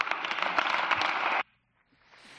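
A large crowd applauds Pablo Casado after his political speech, a dense, steady wash of clapping that cuts off abruptly after about a second and a half, leaving near silence with only faint background noise.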